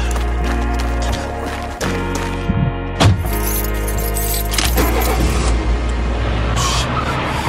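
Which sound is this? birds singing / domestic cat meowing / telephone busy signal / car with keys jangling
car with keys jangling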